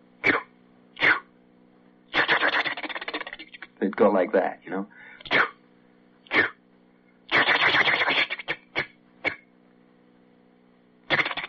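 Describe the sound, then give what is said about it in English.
A voice imitates a long freight train, assembled in the rail yards by the roundhouse near the hump, departing for the west. It makes breathy, hissing chuffs, some short and sharp, others long and drawn out, mixed with a few throaty groans, followed by a brief spoken remark. “maybe every 30 minutes, you would hear a train that has been put together out there in the yards by the roundhouse, near the hump.”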